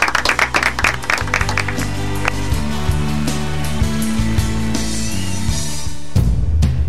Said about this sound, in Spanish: Con un aplauso terminamos el programa.